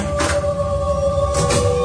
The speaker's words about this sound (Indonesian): Terdengar suara pintu toilet dibuka dan ditutup.